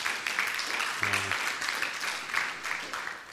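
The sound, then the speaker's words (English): A crowd claps steadily for the band in a dense, sustained wash of applause, loud and even throughout, with a brief low harmonic hum or voice tone rising beneath it for a moment. “I think they just need a round of applause because I think they're absolutely awesome.”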